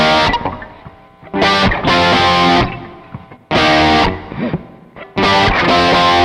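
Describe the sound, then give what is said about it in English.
An electric guitar with a chorus effect on a rock setting plays alone, copying the keyboard part: loud bright strummed chords in bursts alternating with quieter ringing, sustained notes, roughly three stabbing phrases over about six seconds. “And then I've got chorus, rock. I'm just basically copying the keyboard part in this section.”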